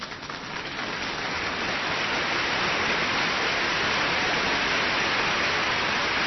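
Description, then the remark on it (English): A crowd at a speech bursts into applause that swells over the first second, then holds as a dense, steady wash of clapping for several seconds with no voices. “That seems to be a big applause line.”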